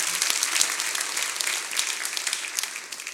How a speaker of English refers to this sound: So can we give God just a great big hand, clap of praise?